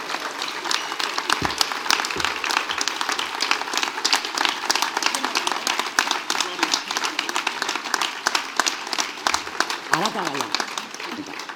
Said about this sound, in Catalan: Així que, bueno, us demano, que ja ho heu fet, un fort aplaudiment per ells, perquè un president no és res sense tota la gent que té al darrere.